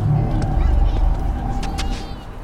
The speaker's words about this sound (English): Yeah, does the Cole Street Pothole usually growl? Growl? Like there are alligators in the sewer or something?